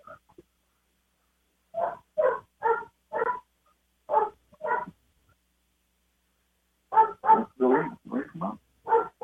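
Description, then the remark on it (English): One of a household's dogs barks repeatedly in a room, in two rapid bursts of sharp, loud woofs separated by a short pause, with no talking underneath. “One of our dogs needs to get out of the room.”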